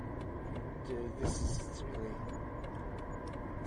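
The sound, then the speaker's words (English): Steady, heavy road rumble from a line of trucks rolling along a road, swelling briefly midway as one is overtaken on the inside and passes alongside, then settling back into a continuous drone. “This truck train is just trucking along. I'm coming, overtaking on the inside. Hear that around the side?”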